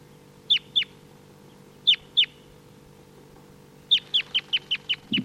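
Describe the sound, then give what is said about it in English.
Wild birds give short, sharp high chirps, two pairs of quick calls and then a rapid run of about eight in a row, over a steady low background hum. “So recording, these are the wild birds. Decoys are calling. This is the wild bird.”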